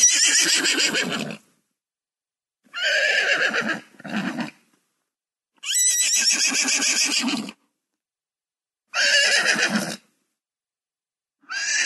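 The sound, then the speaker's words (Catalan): A horse neighs repeatedly, with five loud whinnies separated by short silences, each a shrill, quavering call with a breathy tail. “La música del cavall és aquesta.”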